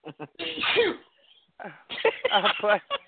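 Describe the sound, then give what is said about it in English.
A single loud sneeze in front of a phone bursts out after a couple of short breathy sounds, followed by a brief pause and then someone talking. “Next time, don't sneeze in front of the phone.”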